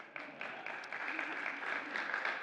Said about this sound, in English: I'm glad she said yes, or that clapping would be very strange right now, right?